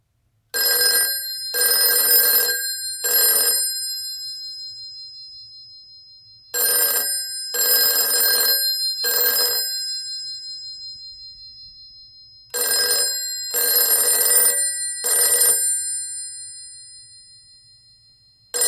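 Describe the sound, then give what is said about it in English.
A telephone rings in a distinctive priority ring pattern, set up for calls from another line through a Cox Communications phone service: three bursts of ringing, short-long-short, repeated three times with pauses between, loud with no one speaking. “We have a priority ring set up from another line. It's just another ring pattern.”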